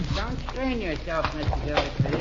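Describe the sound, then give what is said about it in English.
Horse hooves stamp and clop irregularly under loud overlapping voices, a few sharp hoof knocks standing out near the end. “Hold those horses there. Whoa, now.”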